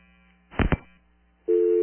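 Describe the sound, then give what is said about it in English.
A brief rustling clunk like a handset being handled, then a steady, loud telephone dial tone begins and holds without a break until the end. No one speaks. “Go back to the dial tone.”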